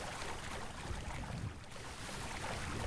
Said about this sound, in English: Now, here I need my boat and paddle. Got boat and left. Paddling right, and I'm just going to hit T to completely cross this ocean to the south.